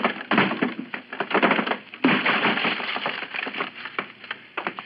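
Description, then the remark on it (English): A man forces and breaks open a wooden bedroom door, with a dense, close run of loud thuds, cracks and splintering wood for several seconds, and no voices. “Stand back. I'm going to break it open.”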